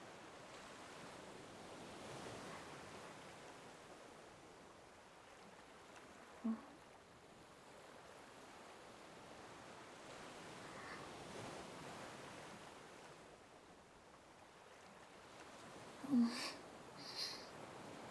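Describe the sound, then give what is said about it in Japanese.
Soft, steady ocean surf washes against a rocky shore in slow rolling surges, hushed, with a couple of brief sharp calls cutting through near the end. “別に、ずっとそこにいてもいいけど、私は海眺めてるだけだし。”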